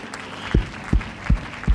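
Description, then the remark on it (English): A crowd claps their hands unto the Lord in unison during worship, four strong, evenly spaced beats at a steady rhythm over a low murmur of voices. “Put your Bible down and clap your hands unto the Lord and magnify his name.”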